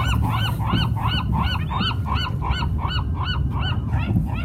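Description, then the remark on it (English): A flock of geese honk repeatedly and insistently as they are fed pita bread near Alcatraz, calls overlapping in a steady rapid rhythm, over a low rumbling background with no talking. “It's just me and the birds.”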